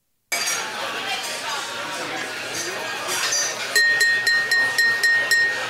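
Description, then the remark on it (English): Glasses clink together in a toast, a quick series of about seven bright, ringing taps near the end, over a steady murmur of crowd chatter that fills the whole clip. “Everyone, please, raise your glass with me.”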